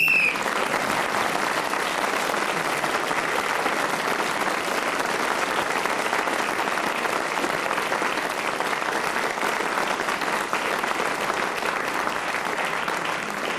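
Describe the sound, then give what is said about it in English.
Sustained studio audience applause for Peter Jones, asked for by Clement: a dense steady wash of clapping from many hands that stays loud and even throughout, with no talking over it. “So that lovely applause which Clement asked for Peter Jones, but I give it to all of them because they all give such tremendous value.”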